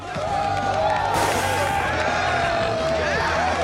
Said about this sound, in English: finishes a keg stand while the others cheer